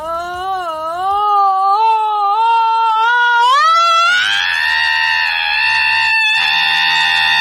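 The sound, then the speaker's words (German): A woman's voice imitates a screaming alarm clock: a loud, warbling wail that climbs in pitch, then breaks into a sustained shrill shriek, heard alone for several seconds. “Mensch, ein Wecker, der schreit.”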